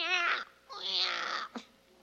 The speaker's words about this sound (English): I remember so well hearing that cry of a newborn.